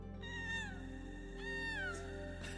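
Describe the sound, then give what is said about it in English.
A human voice imitates whale song: two long, high, wavering wails that slide slowly downward, followed by a brief upward squeak, loud and alone with no talking. “It's actually me doing the whale.”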